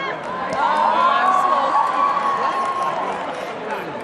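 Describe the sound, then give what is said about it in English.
A large crowd roars and screams together in a sustained, loud wave as black smoke rises while they wait for a new pope, with several voices rising in pitch above the dense, continuous din for the whole few seconds. “We just heard the scream going up.”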